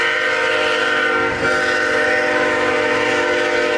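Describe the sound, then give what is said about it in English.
A train roars past, its horn blaring in a sustained, loud, steady tone that fills the whole stretch, with a brief dip in the middle before the blast continues. “Yeah, we're gonna lose sound a little bit because the train.”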